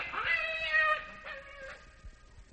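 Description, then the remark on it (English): A black cat lets out a loud, drawn-out meow, then a second, shorter yowl, both clear with no talking over them. “Scat, you black fiend!”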